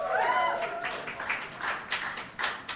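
An audience applauds with a steady, dense patter of clapping that swells and dips, opening with a brief high rising whoop or whistle over the claps.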